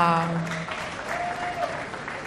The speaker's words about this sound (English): Those claps look like masculine claps.